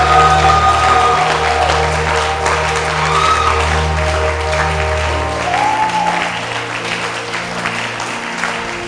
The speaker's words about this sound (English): I thought the whole church was clapping. I mean, clap like you are crazy. Clap like you have the victory.